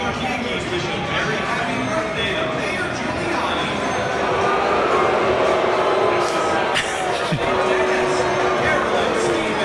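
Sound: stadium crowd cheering loudly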